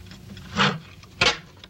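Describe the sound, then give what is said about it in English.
A door is eased open a little: two short, muffled bursts, a latch or handle sound followed by a brief wooden knock or scrape, over a low, quiet background hum. “Danny crosses to the door. Opening it a crack, she sees Chilton.”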